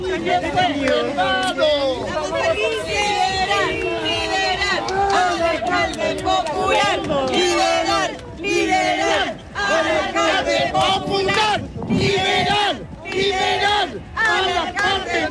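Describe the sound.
A large crowd of supporters of former Recoleta mayor Daniel Jadue, waving many flags at the Centro de Justicia as he comes out, shouts and chants "¡Aquí estamos otra vez!" together, voices overlapping in a loud, continuous roar with rhythmic rising calls and a few brief dips in volume.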